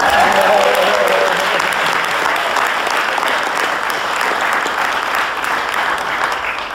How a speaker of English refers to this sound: The new name will be very simple, as will be known as Habitat for Humanity of Pinellas and West Pasco Counties. Feel free to clap.